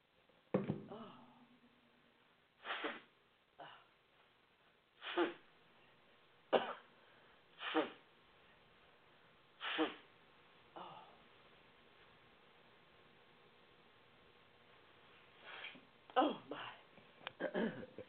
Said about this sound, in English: Excuse me. I'm going to do something you should never do on live blog radio and like that. I'm actually going to blow my nose.